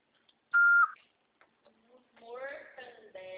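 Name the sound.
voicemail recording beep tone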